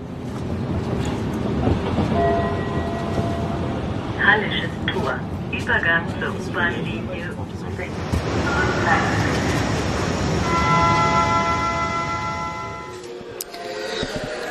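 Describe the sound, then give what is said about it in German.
A Berlin U-Bahn subway train rumbles along loudly and steadily, with a brief voice announcement of Hallesches Tor station and the transfer to line U6 partway through, then high metallic wheel squeals ringing out as it slows near the end. “Hallisches Tor, Übergang zur U-Bahn-Linie um 6.”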